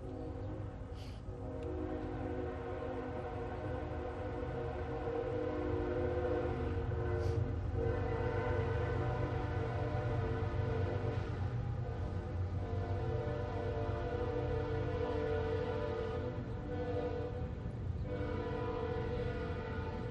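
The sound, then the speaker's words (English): A passing train blares its horn in long, sustained tones over a steady low rumble, loud for the whole stretch, with a few brief clanks and no voices. “We'll wait on the train.”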